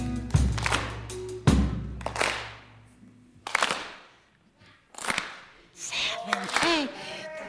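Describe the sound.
A crowd does a soul clap, clapping in unison on the beat without any music, about four sharp, loud group claps with ringing decays between them, and voices call out near the end.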